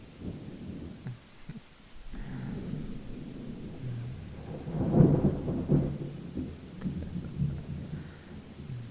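Low, rolling thunder rumbles continuously with a swelling peak midway, while steady rain hisses softly in the background. No voices, just the storm filling the space.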